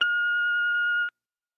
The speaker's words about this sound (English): I'm not here. Here comes the beep. You know what to do.